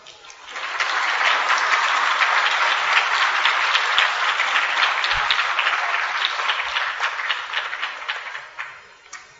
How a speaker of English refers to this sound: They clapped louder than you were. Clapping is a very nice ritual.